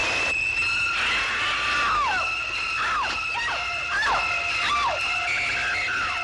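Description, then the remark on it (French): A woman's piercing screams from Alfred Hitchcock's film Psycho, one of the most famous screams in film history, come in repeated sharp shrieks that slide downward, roughly every second, over a constant shrill high tone. They are loud, with no talking. “C'est l'un des cris les plus célèbres de l'histoire du cinéma.”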